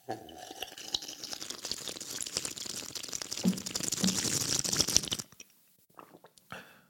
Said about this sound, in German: Ich nehme mal kurz einen Schluck Wasser.